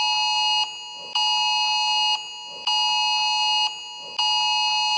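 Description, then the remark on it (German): A loud, piercing electronic emergency warning alarm sounds in steady repeating pulses, each about a second long with brief dips in between, harsh and insistent with no voices present; the same alarm sounded at 19:07 and again at 19:30. “Genau, und das Schlimme daran ist ja, es war ja nicht nur um 19.07 Uhr, sondern um 19.30 Uhr kam das gleiche Alarm nochmal.”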